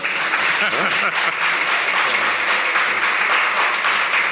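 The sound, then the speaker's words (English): An audience at a talk applauds steadily for a few seconds as a speaker is introduced as a University of Florida graduate, a dense, even wash of many hands clapping at moderate loudness, with a faint voice briefly audible beneath it. “Not much applause for I know.”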